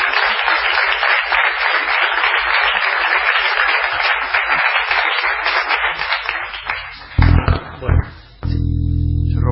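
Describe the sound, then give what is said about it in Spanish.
Steady, dense hand clapping after a song fills about seven seconds, loud, then fades into a few heavy low thumps and rumbling handling noise near the end. “¿Sabes que se me durmió la mano recién aplaudiendo?”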